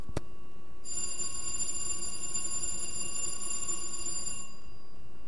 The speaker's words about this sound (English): That was like a 5-second bell instead of a 5-minute bell.